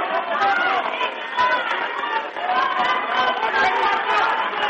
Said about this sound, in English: Crowd's into it. Pressure's on.